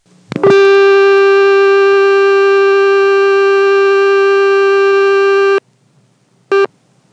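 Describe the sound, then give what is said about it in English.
A very loud, steady telephone dial tone on an intra-office call in Vermont, recorded in summer 1978, drones with a harsh, buzzy edge for about five seconds, then cuts off abruptly; after a pause, one short tone burst marking the end of the first dialed digit, a 5, sounds over faint tape hiss. “The dial tone was so loud that any details after that first digit are completely lost in the tape noise.”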